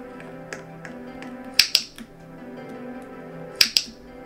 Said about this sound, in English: Now we got a clicking noise of a lamp turning on.